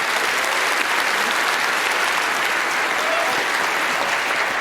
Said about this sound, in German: Und tut mir noch einen Gefallen, begrüßt sie mit einem kräftigen Applaus.